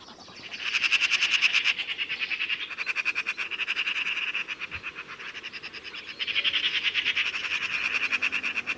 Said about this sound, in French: À droite, un groupe de pies bruyantes, qui sifflent sans arrêt, sont en train de se poursuivre entre elles. Elles aussi attendent que les grands oiseaux charognards finissent leur festin.